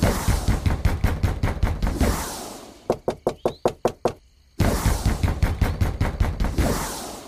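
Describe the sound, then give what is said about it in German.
Loud, rapid knocking on a royal castle door comes in three bursts of about eight sharp, evenly spaced raps. The middle burst sounds drier and more hollow than the other two. No one speaks. “Da hörte er es an der königlichen Schlosstür klopfen.”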